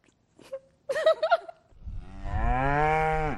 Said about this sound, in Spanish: El mugido de una vaca, el canto de un gallo o las campanas del pueblo, símbolos franceses que podrían estar amenazados.